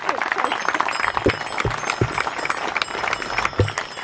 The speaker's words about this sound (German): Darauf lasst uns einen ordentlichen Beifall bitte dafür diese Forderung.